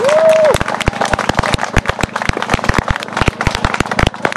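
Audience applause for Standa Dupač, author of the script and of the accompanying entertainment programme: a dense run of sharp, loud claps over a steady noisy wash, opening with a brief high whistle that rises and then holds.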